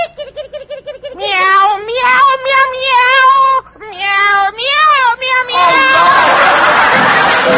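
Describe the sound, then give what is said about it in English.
A kitten being put out the door meows loudly: a quick run of short mews, then long, wavering, rising-and-falling cries that end in a burst of rough, hissy noise. “And while I'm about it, I'll put my little kitten out.”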